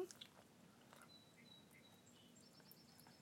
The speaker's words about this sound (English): Did you hear the bird? Mm-hmm. It sounds like it's inside there, don't it? Mm-hmm. How's it do that? In your fireplace? It sounds like it's in there, doesn't it?